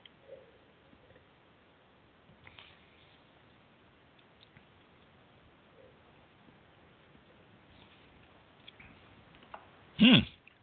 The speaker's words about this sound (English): Excuse me while I sip.